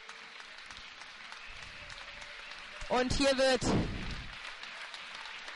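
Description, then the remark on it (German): A football stadium crowd applauds in a steady, even wash of clapping as the player Manno is substituted off the field in a WSV match, with a man's voice briefly speaking loudly over it near the middle. “Manno mit Applaus vom Feld verabschiedet.”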